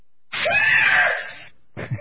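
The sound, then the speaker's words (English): A loud, piercing human scream lasting just over a second, sliding in pitch and then fading, followed after a brief silence by the abrupt start of another vocal burst. “So I want to play two different versions of the scream.”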